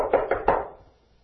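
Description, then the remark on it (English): Three quick, hollow wooden taps of a walking cane in an even rhythm as a man comes to the door, each one ringing briefly before fading into quiet. “I was just about to leave when I heard tapping of the cane.”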